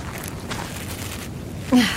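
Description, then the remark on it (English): Slow, heavy breathing of an unconscious, incapacitated sniper, a couple of soft breathy exhales rising and falling over a low background hiss, with no talking. “He's breathing.”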